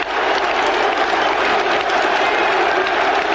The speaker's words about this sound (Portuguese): Olha o que lembrado foi no o barulho que a torcida fazia, né? E ainda já era anos 90, hein?